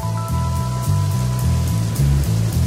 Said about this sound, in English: The Oregon coast in the wintertime. It's cold, it's raining, just how we like it in the Pacific Northwest.